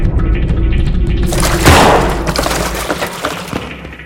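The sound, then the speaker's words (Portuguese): A single loud gunshot, fired upward, cracks out over a low rumbling background, its sharp blast trailing off in a rough, ringing decay over the next couple of seconds. “Sobral atira para cima.”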